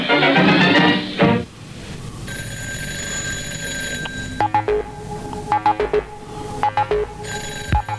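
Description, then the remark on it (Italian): A telephone rings loudly, first as a sustained tone and then in quick repeated bursts, after a short blast of busy noise at the start. No one speaks. “Mi è spiazzato un attimo questo suono del campo di telefono, visto che qua non.”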